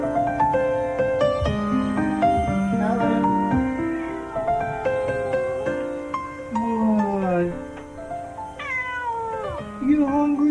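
A cat waiting to be fed meows insistently, a steady run of loud, drawn-out meows with rising and falling pitch that continues almost without pause for about ten seconds.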